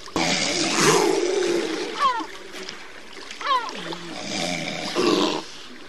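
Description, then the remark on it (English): Grey seals call on a beach on the Baltic Sea island of Gotland over steady washing surf, with two wavering, moaning cries rising and falling in the middle and rough, drawn-out groans blending into the water noise at either end. “You can see Orion's photos of those noisy gray seals”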